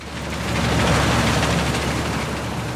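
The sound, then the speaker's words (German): A combine harvester threshing in a field in Bremke near Bodenwerder, a steady, loud mechanical roar with dense rattling and crackling texture and a low engine hum underneath, continuous throughout with no voices. “bei Regen oder wenn es noch sehr feucht ist, funktionieren die Mähdrescher nicht richtig”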